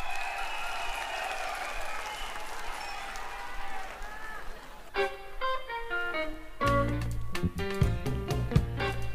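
A live audience at the 1978 Yamaha East West band contest claps and cheers in a dense, steady wash for several seconds, with a few shouts, before a band launches into loud music that buries the fading applause.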